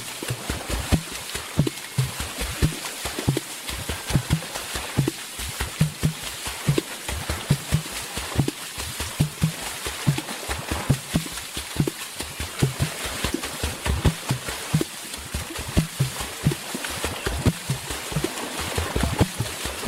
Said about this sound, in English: But here is something that is just beautiful: water drumming. Check it out.